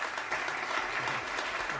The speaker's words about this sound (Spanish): Ahora... se siguen escuchando aplausos.